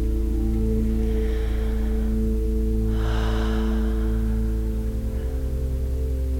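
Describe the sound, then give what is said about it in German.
A couple of slow, deep breaths, soft airy inhales and exhales during a guided healing meditation, over a steady, humming drone of ambient music, with no talking. “Und wir atmen dazu.”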